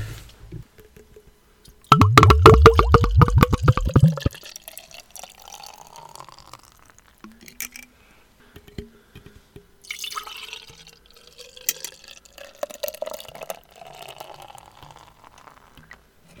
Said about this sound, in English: I watched how you poured that, so clearly you were taught how to pour a beer the same way I was.